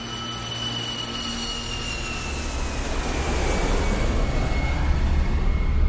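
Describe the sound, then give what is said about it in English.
A British Airways passenger jet carrying 385 people landing in Kuwait on August 1, 1990, as the Iraqi army invades. Its engines produce a steady roar with a high turbine whine that slowly drops in pitch, and the rumble grows louder over several seconds. No one speaks. “It's August the 1st, 1990, and a British Airways passenger plane carrying 385 people has just landed in Kuwait as Saddam Hussein's Iraqi army is invading.”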